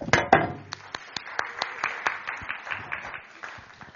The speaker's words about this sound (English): Well, it gives me great pleasure to welcome to the microphone my wonderful wife. If you want to whoop, applaud, stand to your feet, whatever way you want to welcome her, but please do that